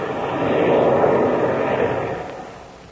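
A steady, rumbling airplane engine drone fills the scene, then gradually eases off and fades as Ivan Shark's plane throttles back its engines to go down to land, in the radio serial Captain Midnight, with no voices over it.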